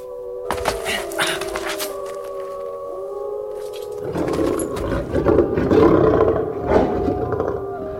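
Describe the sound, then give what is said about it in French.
An escaped elephant roars loudly as it passes by, a long harsh bellow with sustained tonal blasts that swells rougher and louder midway through, nobody talking over it. “Et qui passe par ici? Et qui? L'éléphant!”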